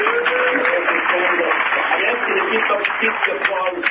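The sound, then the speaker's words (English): A steady wash of clapping from a sizable crowd fills the whole stretch, dense and fairly loud with no pauses, with a faint murmur of voices underneath. “Please the applause to the very end, so we don't need our own clock.”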